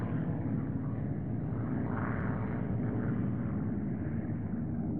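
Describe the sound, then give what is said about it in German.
A steady, deep rumble of aircraft engines droning overhead, broad and continuous for the whole stretch, with a slight swell in the middle and no voices. “Die Flieger, die am Himmel rumorten, waren die Flieger der anderen.”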